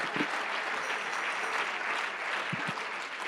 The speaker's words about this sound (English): Come on, clap your hand. We're going.